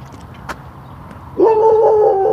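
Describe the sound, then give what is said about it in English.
A dog gives one loud, drawn-out bark that stretches into a steady, whining tone for about a second, after a single sharp tap earlier. No one speaks. “Brr, easy dog.”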